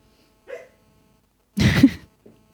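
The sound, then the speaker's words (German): A female dog that is dreaming gives muffled, breathy barks in her sleep: a faint soft yip, then a louder stifled woof, and a tiny trailing huff, with no one talking. “Jetzt träumt sie auch noch. Oh. Dieser Hund bellt sonst nie, ne?”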